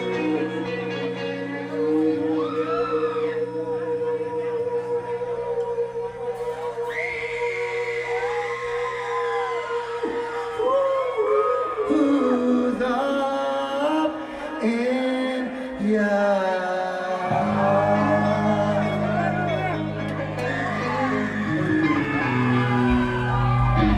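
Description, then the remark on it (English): A loud live crowd at a music performance screams, whoops and cheers continuously for the whole stretch, with many overlapping high voices rising and falling over a steady, sustained low drone. “You're gonna have to scream a lot louder than that if you want me to play this fucking song.”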